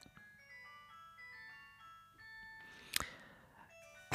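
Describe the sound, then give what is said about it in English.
A new mobile phone's ringtone, recorded in 2002, plays a bright, electronic melody of steady beeping notes in a looping tune, with a sharp click partway through and a burst of noise at the end. “That's my new phone.”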